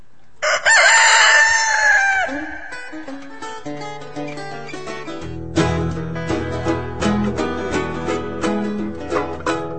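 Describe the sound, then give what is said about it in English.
A single loud crow from Timmy, the mascot rooster of the show All the Dirt on Gardening, rings out for about two seconds at the start, then gives way to an upbeat instrumental music interlude with steady bass and rhythmic percussion. “Well, we'll have a musical interlude here with Timmy, our mascot rooster, and we will be right back with All the Dirt on Gardening.”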